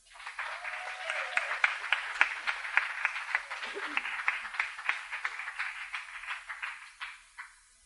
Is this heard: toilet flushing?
no